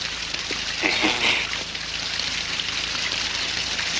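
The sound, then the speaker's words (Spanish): A gardener pokes an iron rod into the bottom of an artificial pond dotted with rocks, stirring and sloshing the water in a steady watery churn with a few sharper splashes early on, no voices. “Tras coger una vara de hierro, el jardinero se dirige rápidamente hacia la charca artificial salpicada de rocas y hurga en el fondo.”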